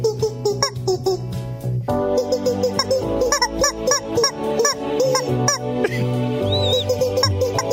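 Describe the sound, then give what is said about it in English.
A person imitating a clucking chicken with loud, nasal honking clucks in rapid bursts, rising and falling in pitch almost without pause for several seconds. “…, which one's your chicken? Let's hear your chicken.”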